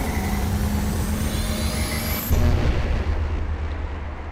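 A car engine rumbles and builds as the vehicle pulls away, with a rising whine sweeping upward before a heavier surge of low rumble. No one speaks.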